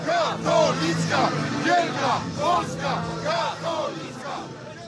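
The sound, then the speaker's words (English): A large, threatening crowd chants and shouts in unison against a newspaper, accusing it of promoting Islamic terrorism, LGBT rights and a transformation of Polish society: loud and rhythmic, with repeated rising vocal phrases every second or so over a dense roar of voices. “It's chanting about the paper promoting Islamic terrorism, promoting LGBT rights, promoting a transformation of Polish society.”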